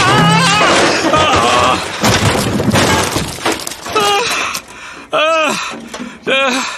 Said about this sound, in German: Oh nein. Das darf doch nicht wahr sein. Jetzt ist die Schubkarre umgefallen und die Himbeerkörbe sind auf den Rasen geflogen. Oh je, das Platschgeräusch eben, das klang gar nicht gut.